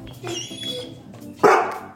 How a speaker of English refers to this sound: Big dog. Oh my God.